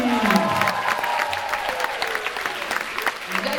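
An audience claps steadily and loudly for a band's bassist as he is introduced on stage, a dense wash of many hands, with a few cheers and shouts rising through it for a few seconds.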